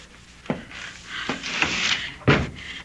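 A door being closed by someone while another person holds it, with three sharp wooden knocks and a rattling, scraping sound as it's pushed and held, the last impact the loudest.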